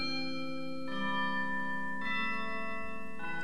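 Bells chime in a slow sequence, three bright strikes about a second apart, each tone ringing and sustaining into the next, clear and fairly close with no voices.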